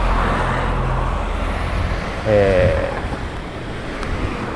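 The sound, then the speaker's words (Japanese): A large bus roars past on a road, its broad engine and tire rumble filling the scene with steady traffic noise, and a brief voiced sound rises midway. “まあ、ごっつええこと言うたのに、まあ、すごい大きなバスが通ったわ。”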